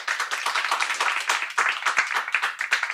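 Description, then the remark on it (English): An audience claps to vote on whether millennials will be left behind, a dense, steady patter of many hands at moderate volume for a few seconds, with a few sharper individual claps standing out and no one speaking. “And now clap if you think, no, millennials will not be left behind.”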